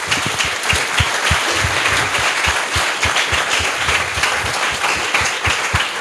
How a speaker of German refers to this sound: Und auch ja, einen herzlichen Applaus. Bitte.